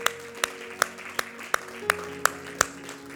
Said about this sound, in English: Let's worship the Lord with a hand clap as we close today.